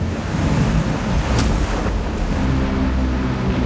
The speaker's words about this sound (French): La grosse marée de tempête que l'Amérique n'ait jamais connue s'abat sur les digues qui entourent la Nouvelle-Orléans et les détruisent.